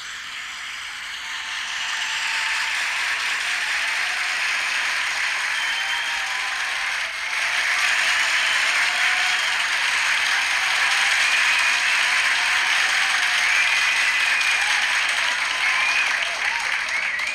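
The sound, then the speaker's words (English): Sustained applause for a ticket giveaway winner, a dense steady wash of clapping that swells in over the first two seconds, dips briefly midway, then surges back and holds loud until the end. “You see, it kind of gives out at one point. I feel like we need to applause more.”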